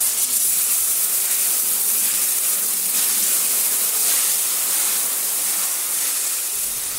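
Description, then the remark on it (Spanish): A shower jet sprays water in a steady, loud, bright hiss that runs unbroken for several seconds, with no voices. “Bueno, y voy a comentar al menos para mí uno de los más placenteros, que es el chorro de la ducha.”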